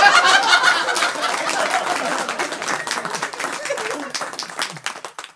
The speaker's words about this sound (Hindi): कभी बोला, फालतू बातें मत बनाओ, कविता पर नहीं बैलेंस पर तालियां बजाओ।